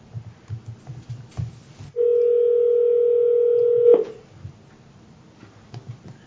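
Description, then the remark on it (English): A steady, loud telephone dial tone holds one mid-pitched note for about two seconds as the Taney County Board of Equalization places a call, then cuts off, with faint low murmuring and shuffling before and after. “I know we're calling a little bit early.”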